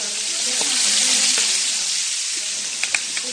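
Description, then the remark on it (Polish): Steady sizzling of duck pieces, just turned over, frying briefly on their second side in a hot pan, a dense crackling hiss throughout with a few sharper pops and spatters near the end. No one speaks. “I z tej drugiej strony będziemy smażyć tak naprawdę no chwilę.”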